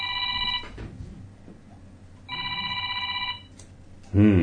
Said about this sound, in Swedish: Ja, ja, där ringde min telefon mitt i sändningen. Men det får jag ta och svara på någon annan gång.